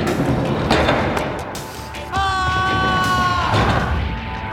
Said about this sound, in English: That yell as … is pulled through the door, it made him sound like he was like half-heartedly worried